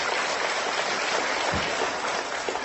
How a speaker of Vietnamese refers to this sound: Xin quý vị hướng về sân khấu cho một tràng pháo tay.